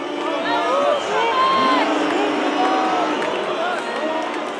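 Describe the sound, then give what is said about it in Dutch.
A large football stadium crowd roars continuously, a dense wash of many voices with rising shouts, whistles and jeering calls mixed with cheers, loud and sustained throughout. “De pannenkoek stortte effectief neer en ze kwamen terecht in een voetbalstadion met in het publiek 1908 vossen en op het veld één muis.”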